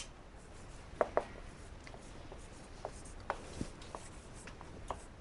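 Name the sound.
writing on a board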